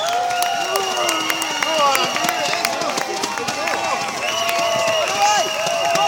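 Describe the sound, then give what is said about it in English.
A large crowd cheers and shouts in a steady, loud roar as the torch approaches the Chichester Festival Theatre, with scattered clapping and high whistles cutting through the din for the whole stretch. “As you can hear the reaction, it is absolutely mad here.”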